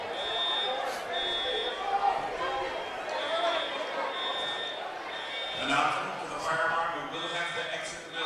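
A high-pitched electronic alarm tone goes off in a school gymnasium about a minute before a game's tip-off, sounding in long repeated pulses, steady and piercing, over a constant murmur of crowd chatter and shuffling.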